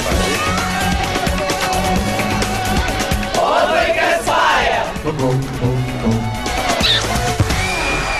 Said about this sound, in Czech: Molim vas da ostanete na vezi da zajedno čujemo jedan lep džingl.